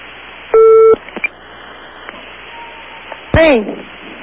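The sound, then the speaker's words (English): A single loud, buzzy telephone ringing tone sounds briefly over a narrow phone line on a call to a tattle line in Beijing, China, followed by quiet line hiss and a short burst of a woman's voice answering. “Okay, that's ringing.”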